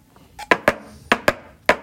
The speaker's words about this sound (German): Das Pferdehufklappern für seinen Cowboyfilm.